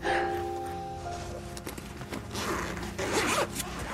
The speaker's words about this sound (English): undoes the zipper for her and pulls out the laptop.